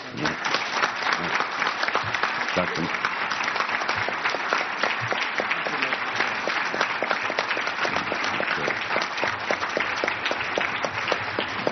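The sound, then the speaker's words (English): Sustained audience applause for the standing behind-the-scenes helpers who made the event possible, a dense steady wash of many hands clapping at even loudness for about twelve seconds, with faint crowd murmur beneath it. “I would like for those who fit that 4 or 5 part category of people who helped to make this possible, if they would please stand and take a round of applause.”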